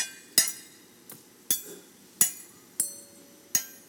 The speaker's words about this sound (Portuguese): Só os talheres. Uma oração à mesa. Aquele silêncio sagrado. Todos estão comendo.